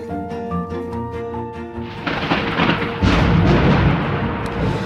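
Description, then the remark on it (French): A steady tonal drone gives way to a deep, roaring rumble of thunder that swells suddenly at about two seconds, grows louder a second later, and keeps rolling to the end. “Je craque, j'étincelle, j'allume le ciel, j'allume la terre, je suis l'orage.”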